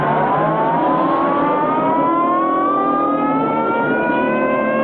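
police car siren

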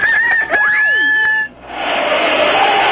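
rooster crowing

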